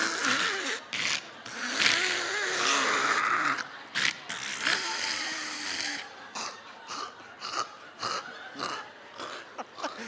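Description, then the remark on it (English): A cat retches up a hairball, a run of harsh, wet hacking and gagging spasms that pulse rhythmically and grow choppier toward the end, with no talking. “A cat choking to death and barfing up a hairball.”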